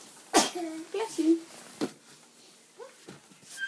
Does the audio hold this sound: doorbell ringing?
no